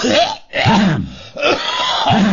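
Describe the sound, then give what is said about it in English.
A voice mimics a woman coughing without covering her mouth, three loud, raspy bursts in quick succession, the last one drawn out a little longer, with no other sound around them. “We went to see a movie at the movie theater, and while she's in the restroom, this woman walks right by me, right across in front of me, and coughs.”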